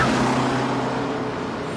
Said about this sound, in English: And the thing that I remember most about this was that there's a scene when, and I'm going to spoil it here, Regina George is hit by a bus.